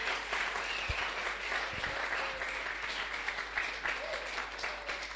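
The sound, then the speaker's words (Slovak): A crowd at a sermon on evangelization claps for Christ steadily for several seconds, a dense, even patter of many hands with no break, moderately loud throughout. “Zatleskajme Kristovi.”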